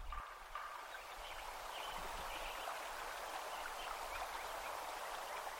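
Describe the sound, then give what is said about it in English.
A sparse outdoor meadow soundscape at Lincoln Meadow, Yuba Pass, California, one year after the forest was logged: a steady, soft hiss like running water fills the background, with little else; any bird or insect calls are faint and scattered. “Listen to Kraus's recording 1 year after logging.”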